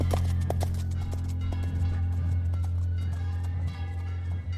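Horse hooves clip-clop, a few sharp strikes bunched near the start and softer steps after, over a steady low droning rumble. No one speaks.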